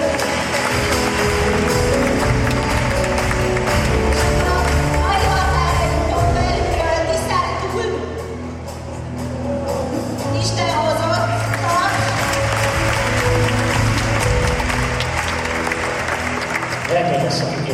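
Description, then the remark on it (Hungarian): An audience applauds loudly and steadily for nearly eighteen seconds, a dense wash of clapping that dips briefly midway before swelling again, with faint voices and tones underneath. “Nagy tapsot megyünk.”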